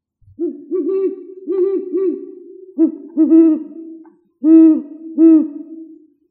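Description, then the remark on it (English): A great horned owl gives deep, resonant hoots in rhythmic bursts of two or three, each series separated by short pauses. The calls are clear, with no talking. “So great horned owls.”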